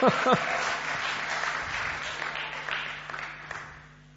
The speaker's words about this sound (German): Ja, gib mal einen Beifall.